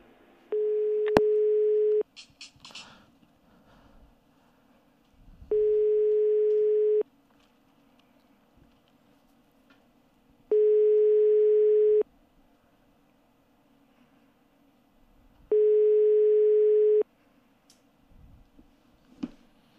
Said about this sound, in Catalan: Mira que té una música estrident sempre que el truques, eh? La veritat. És un telèfon que se sent d'una hora lluny, però no hi ha hagut sort.